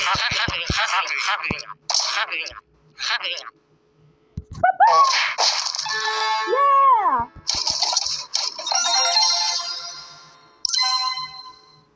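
A phone ringtone chimes in the middle, a bright electronic melody of sliding tones, surrounded by loud, noisy bursts and clattering sounds before and after.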